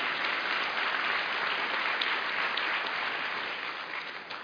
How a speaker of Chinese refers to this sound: 为我们自己来鼓掌吧。 We made it， 真的 We made it。哈利路亚，再次大力鼓掌。